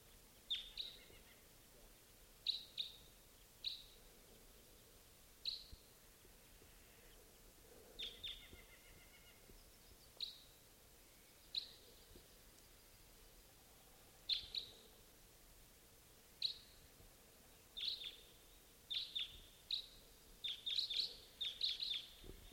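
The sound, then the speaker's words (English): A flock of birds calls with short, sharp, high-pitched chips, scattered at first and then bunching into a busier chatter near the end, all fairly faint over a steady background hiss. “I think I hear a large flock of type 2s somewhere”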